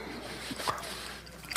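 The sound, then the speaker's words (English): A wet bite into juicy fruit from the land of Israel, followed by a couple of soft squishy chewing sounds, quiet against a faint background hiss. “Remember, I'm not eating water. All the substance of this comes up from the land of Israel.”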